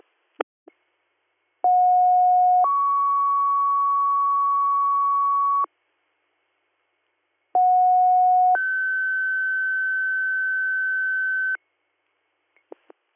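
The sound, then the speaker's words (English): Two-tone radio dispatch paging alerts sound twice, paging Greater Valley MS a second time on third due tones for a medic for Ridgebury QRS, for a fall victim in Ridgebury Township. A lower steady tone steps up to a higher sustained tone, each sequence lasting several seconds, framed by brief clicks and squelch bursts, with no speech. “Greater Valley MS, second page on third due tones for a medic.”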